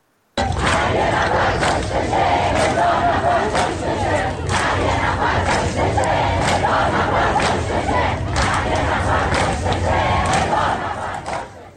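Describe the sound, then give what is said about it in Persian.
A large crowd at a funeral chants anti-government slogans in unison, loud and steady throughout, with rhythmic surges of many voices shouting together and a dense roar of voices beneath. “یکی از شعارهای حاضران در این مراسم رو بشنوید.”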